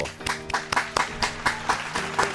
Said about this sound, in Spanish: Aplausos, de veras que sí, aplausos, merecidos aplausos a estos jóvenes intérpretes de esta, de este tema tan, tan difundido,